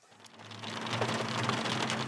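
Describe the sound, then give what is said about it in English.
Steady monsoon rain pours down in the city of Gunnison, Colorado, during a drought emergency: a dense hiss of drops spattering on surfaces that swells in the first moments and then holds even, with a low background rumble and no voices. “This is a welcome sound in the city of Gunnison, where Colorado's governor has declared a drought emergency.”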